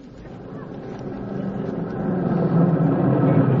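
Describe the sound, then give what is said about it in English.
A milk truck's engine rumbles as it pulls into the driveway, a low, steady motor drone that swells gradually louder over a few seconds, with no voices. “Hey, the milkman just pulled in the driveway.”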